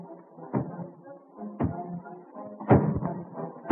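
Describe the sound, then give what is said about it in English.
Heavy, booming footsteps of a big fellow walking, like rolling thunder: about five deep thuds at uneven intervals, the later ones louder, over a low sustained tonal background. “Then one fine day when Paul was talking to one of his men, they heard a noise that sounded like thunder.”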